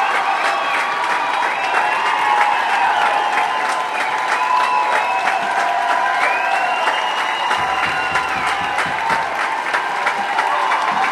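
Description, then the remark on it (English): A large concert crowd applauds steadily with scattered cheers and whistles, a dense continuous roar of clapping that stays loud throughout, calling for an encore after the set as the house lights come on. “But that's not stopping the crowd.”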